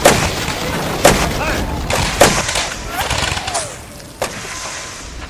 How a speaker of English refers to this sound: fire! The cannons!